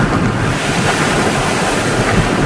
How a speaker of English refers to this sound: Wet and wild. At Snapper Rocks, forget about going in. Even those watching the waves ended up right in the thick of it. Across the Gold Coast, conditions felt cyclonic. Not just belting rain, but gale-force winds, huge seas, and abnormally high tides